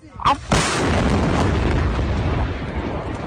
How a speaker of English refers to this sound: Massive explosions recorded again by residents flattened more than 500 buildings.